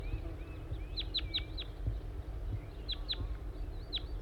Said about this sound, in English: I think I hear a wild bird again. Stop. Yes, I see a wild crossbill. It appears to be a small race male. And another bird with it.